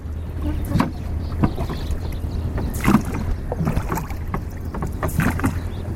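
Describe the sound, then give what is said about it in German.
A rowboat moves across the Yamuna River at the last dam before Delhi, India, with rhythmic splashes and knocks of oars repeating every second or so over a steady low rumble and light wind noise. “Zurück auf dem Yamuna sind wir mit unserem Ruderboot am letzten Damm vor Delhi angekommen.”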